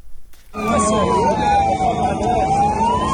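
ambulance siren

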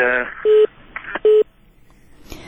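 phone call cutting off

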